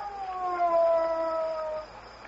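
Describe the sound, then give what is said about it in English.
A wolf howls in one long, steady, slightly falling wail that holds for nearly two seconds before fading, clear with no voices. “It was a wolf.”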